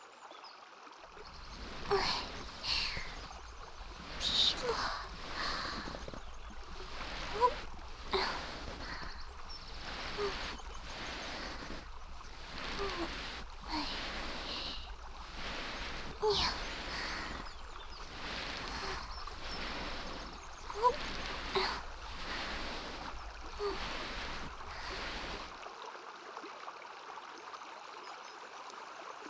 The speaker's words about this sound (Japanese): 川のせせらぎが聞こえるですか。ええ、そうですね。この辺りには川がたくさんあります。